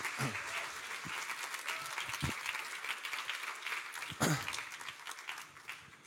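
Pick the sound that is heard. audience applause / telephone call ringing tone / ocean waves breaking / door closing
audience applause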